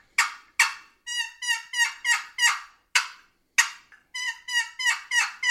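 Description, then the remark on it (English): A turkey box call plays excited cutting: sharp, abrupt clucks mixed with two quick runs of raspy, high-pitched yelps, loud and rhythmic with short gaps and no talking. “So an excited cut, always throw yelps in with it.”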